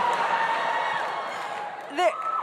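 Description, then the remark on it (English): An audience cheers at the mention of yellow fever in a steady, dense roar of many voices, with a sharp rising whoop cutting through near the end. “Finally, something got a louder cheer than Sydney, and it's yellow fever.”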